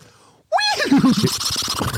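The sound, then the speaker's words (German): A person imitates two horse neighs in succession with their voice, loud, wavering whinnies that start abruptly and shudder downward into breathy, fluttering sounds. “Das waren gerade zwei nacheinander.”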